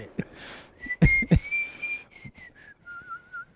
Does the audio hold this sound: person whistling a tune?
yes